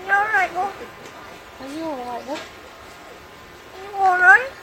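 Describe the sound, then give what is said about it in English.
A trained crow mimics human speech in a British accent, saying phrases like "I'm all right" and "are you all right, love?" in three short, warbling phrases with wavering, gliding pitch, separated by pauses; the final phrase is the loudest. “It may be a little hard for some of our listeners to hear, but the bird says, I think I'm all right, but in a British accent.”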